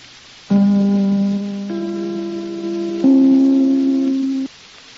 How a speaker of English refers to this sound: And now, Tallulah, if you'll ring your chime. Thank you, …. This, darlings, is NBC, the National Broadcasting Company.